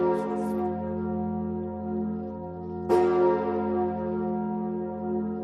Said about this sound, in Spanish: Bueno, fíjate que esta catedral celebraba su 850 aniversario hace nada. Lo hacía con el tañido de unas nuevas campanas fundidas en Normandía.